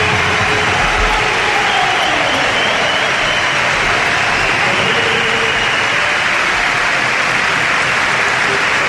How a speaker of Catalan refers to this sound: Tenim Riqui Rubio, senyores i senyors, preparat per ingressar al parquet del Palau Blaugrana. Insistim, l'últim partit va ser l'11 de juny del 2011 i aquesta és l'ovació del Palau.